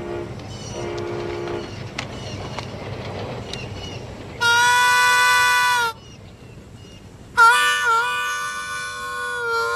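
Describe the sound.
A guitar mimics a train in a clip from the movie Crossroads: a scratchy chugging rhythm, then two loud, sustained horn-like wails, the second bending in pitch as it fades.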